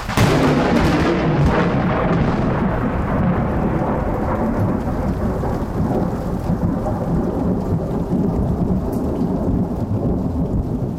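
A loud thunderstorm on the 4th of July in Boise, Idaho: a long, heavy rumble of thunder rolls on for seconds over steady pouring rain, with no voices.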